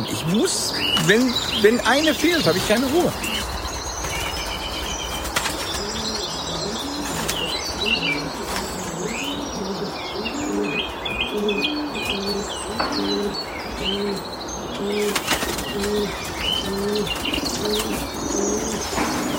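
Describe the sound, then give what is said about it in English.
Many pigeons coo continuously in a dense, rolling chorus in a pigeon loft, with brief bursts of wing flapping and scattered chirps from other birds. “I don't even live here at the pigeon loft.”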